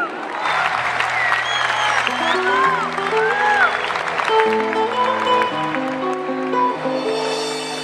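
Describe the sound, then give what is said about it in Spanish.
Steady, dense audience applause welcoming a female solo singer from Rafaela, Santa Fe province, winner of the Pre-Cosquín new talent contest, with scattered cheers and whistles, while instrumental music begins playing underneath it. “Con fuerza y con ganas, el aplauso para”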